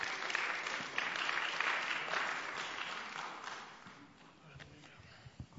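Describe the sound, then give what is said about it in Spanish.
An audience applauds to welcome a guest preacher from Cuba, with dense, steady clapping that holds strong for several seconds, then thins out and fades, with a few scattered claps near the end. “Entonces, hermanos, pues recibámoslo con un fuerte aplauso.”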